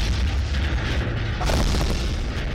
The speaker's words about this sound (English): Of course, with an explosion behind me.